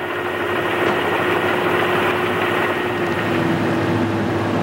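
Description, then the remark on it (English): A steady, droning flatbed truck engine rumble with a low mechanical hum and faint knocking texture as the truck goes up a ramp at Ground Zero carrying the last load, the Stars and Stripes beam, holding an even loudness throughout without any speech. “That flatbed truck is going up the ramp now.”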